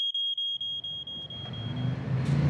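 A smoke alarm, set off by burnt sourdough toast, sounds a shrill, rapid train of beeps, then fades out as a low rumbling engine noise swells up and takes over.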